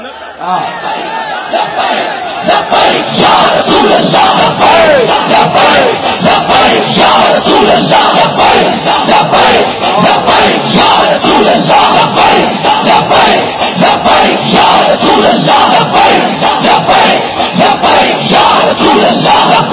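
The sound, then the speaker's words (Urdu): A large crowd shouts religious slogans of "Labbaik" in unison, loud and sustained for the whole stretch, with massed voices rising into rhythmic chanted slogans after a slightly quieter opening couple of seconds. “اس کا مطلب ہے کہ لبیک کہنے سے پاور آتی ہے، ایسے کر کے نعرے لاؤ.”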